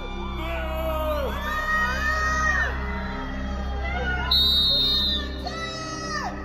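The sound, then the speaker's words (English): A crowd of Depp fans outside the Virginia courthouse cheers on Depp and heckles Amber and her witnesses, many overlapping voices whooping and yelling in rising, wavering tones over a steady low hum; one shrill shout stands out near the end. “Outside the Virginia courthouse, Depp fans gather to cheer on their hero.”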